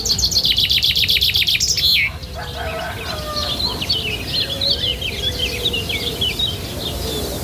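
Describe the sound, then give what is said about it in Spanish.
Small birds chirp and tweet continuously in a small village, a busy overlapping chorus of high, quick calls, loudest in the first two seconds, then carrying on slightly softer over a low steady background hum. “Hay quien piensa que en los pueblos pequeños solo se escucha a los pajarillos y que no pasa nada”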